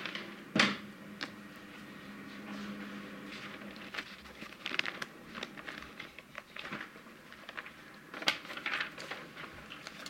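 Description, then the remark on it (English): Papers being shuffled and rustled as a speaker searches through a large pile of paper for a document during a committee hearing, with irregular crisp bursts of handling and a few sharper flicks over about ten seconds, no voices. “And I will find that here in a second. I have a lot of paper here.”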